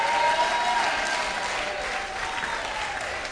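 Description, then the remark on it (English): A crowd claps steadily and loudly throughout, with scattered shouts and cheers mixed into the dense applause, sustained for a few seconds with no pause. “I want you to clap and shout if you believe he's your sustenance.”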